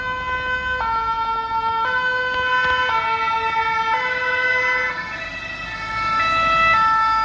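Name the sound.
emergency vehicle sirens approaching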